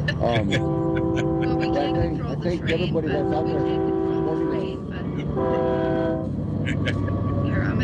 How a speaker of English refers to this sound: And we got a train coming, sorry.